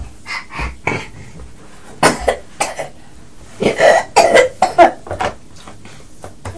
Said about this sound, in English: Yeah, you're coughing a lot, aren't you?